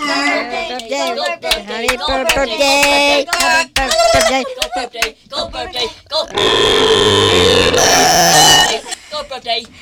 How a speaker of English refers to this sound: We're all talking about burp, burp.